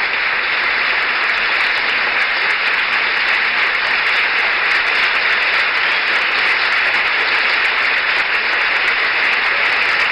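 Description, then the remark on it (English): Sustained, dense applause from a large standing crowd, the official family, as President and Mrs. Nixon, the Eisenhowers and the Coxes move down the aisle toward the podium; steady and loud with no pauses and no voices rising above the clapping. “Nixon, the Eisenhowers and the Coxes move down the aisle toward the podium through the standing and applauding official family.”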